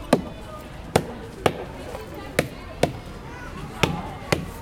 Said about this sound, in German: Mit sicherer Hand schlägt Markus Güdel auf jeden Stamm zweimal drauf.